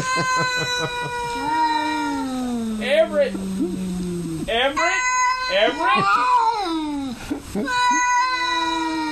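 Several cats meow and yowl insistently, their loud, drawn-out cries overlapping and rising and falling in pitch, with barely a pause across the whole stretch.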